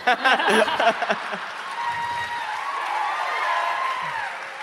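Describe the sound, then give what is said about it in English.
A live crowd laughing and cheering, then a steady wash of applause mixed with scattered whoops, sustained and moderately loud for several seconds, with no individual voices standing out. “This is how democracy dies, to thunderous applause.”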